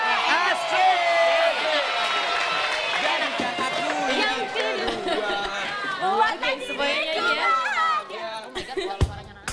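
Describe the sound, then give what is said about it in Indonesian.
A lively audience cheers and shouts continuously as a song from eight years ago is introduced, with scattered whoops and some clapping blended into the loud, dense roar of many voices. “Wow, tepuk tangannya.”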